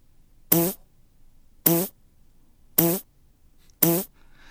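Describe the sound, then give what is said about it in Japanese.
Four short, loud fart noises with a buzzy, rasping tone, spaced evenly about a second apart, each cutting off cleanly over a quiet background with no talking. “この野郎、てめえ俺の屁が聞きたくて嘘つきやがったな”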